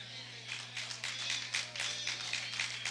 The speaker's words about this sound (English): The hand claps are sad, and the amens are uncertain, and then I'm getting all these blank stares.